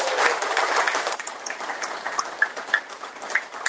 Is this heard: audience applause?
yes